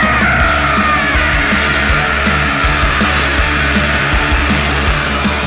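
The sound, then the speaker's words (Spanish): A terrified scream on a roller coaster, loud and sustained for several seconds, riding over a constant roar of rushing wind and rattling rumble. “Ahí volvió el grito aterrador.”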